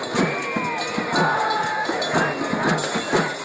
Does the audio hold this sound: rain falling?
no